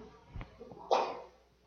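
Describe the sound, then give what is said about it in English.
A single sneeze bursts out from someone in the audience during a Bible reading, preceded by a soft catch of breath and trailing off into a brief hush. “God bless you.”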